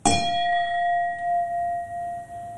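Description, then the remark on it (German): A single bright clink as two glasses of Riesling wine touch in a toast, followed by a clear, pure ring that lingers and slowly fades, with no voices. “Also wir haben ja schon mal im Glas, ja. Moment, wir stoßen mal an.”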